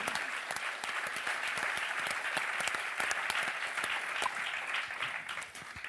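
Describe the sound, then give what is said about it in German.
Sustained applause from an audience, a dense, steady patter of many hands clapping throughout, full, easing slightly at the very end. “Mega festen Applaus für das.”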